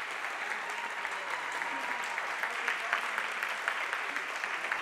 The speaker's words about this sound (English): Now, all of y'all, I need all of y'all to clap as loud as y'all can, do noises on your legs, whatever y'all can do, everything.